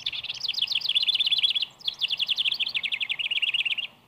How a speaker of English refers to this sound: The house wren matches any bird in this department. With each phrase, he seems to simmer first and then to boil over with musical fervor.